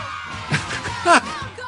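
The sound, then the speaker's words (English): Children's excited high-pitched yells at toy scooters that only move when the children scream at them burst out two or three times in quick succession over a steady background hum, loud, with one longer shout near the end. “Scooter only work when your children scream at them.”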